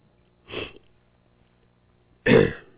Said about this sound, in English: I waited too long on the cough drop, evidently. I get that dry tickle, and then it just won't go away.